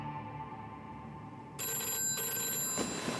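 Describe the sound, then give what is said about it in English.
A telephone rings insistently late on a December night in the governor's mansion, waking Laxalt from a deep sleep; a bright metallic bell tone kicking in abruptly and sustaining, fairly loud, with no voices. The call is from Howard Hughes. “Laxalt wakes from a deep sleep and fumbles for the phone.”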